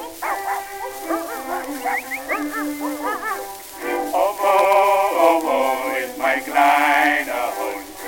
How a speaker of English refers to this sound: My whistle's getting dry. It seems as if I hear that mongrel cry.